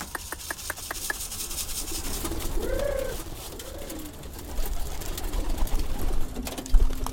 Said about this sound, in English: Mr. Wong is back at the pigeon coop in his old Hutong